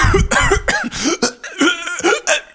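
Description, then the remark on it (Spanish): A close, loud fit of about six rough, raspy coughs in quick succession, voiced with a strained throaty tone, as if a person is acting out a choking coughing spell. “El otro empezó a toser y luego a convulsionar.”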